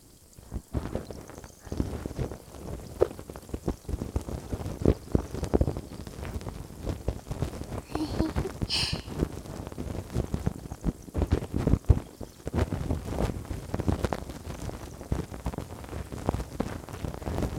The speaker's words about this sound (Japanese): 両側からお耳シュワシュワされて、良すぎだね。